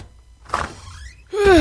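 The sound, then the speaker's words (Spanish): A heavy security door, one of 43 security doors that are the only way into a sealed, well-protected site, slides open with a brief mechanical whoosh and a rising whir that trails off, then a loud voice cuts in right at the end. “Eso, nadie, absolutamente nadie, señor presidente, puede entrar ahí, está sellado y solo se puede entrar mediante estas 43 hilantes puertas de seguridad.”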